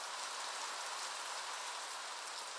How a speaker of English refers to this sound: Oh no, you cannot be serious. Quick, come under my umbrella. See, better safe than sorry. Okay, okay. Good point. Now, let's get out of this rain.